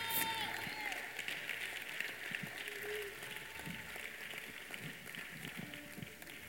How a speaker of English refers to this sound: Come on, let's give him one more hand clap of praise. Let's just give him one more shout of joy.